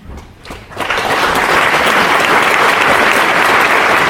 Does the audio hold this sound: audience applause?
yes